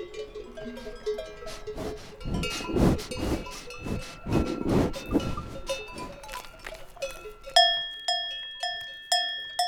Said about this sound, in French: Ça fait partie de l'environnement, quoi. Après, je l'entends tout le temps. Même quand je redescends, j'entends des cloches partout. Souvent.